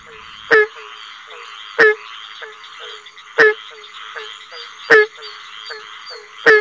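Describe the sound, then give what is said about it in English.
A barking tree frog, one of the largest native tree frogs, calls repeatedly: sharp hollow barks spaced about a second and a half apart, over a steady background chorus of insects or frogs, with no voices. “The call resembles a dog barking in the distance.”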